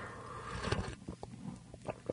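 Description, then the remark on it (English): An airy slurp of hot coffee, the first sip of the morning, lasting under a second, followed by soft swallowing and a few faint clicks of a cup or mouth. “That was the first slurp of coffee there this morning.”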